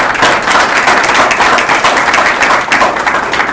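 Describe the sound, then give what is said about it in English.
A crowd applauds the Ann Arbor Region Hotel, which provided the venue, many hands clapping in a dense, bright wash of noise that stays loud and even throughout with no voices standing out. “A big round of applause for the Ann Arbor Region Hotel.”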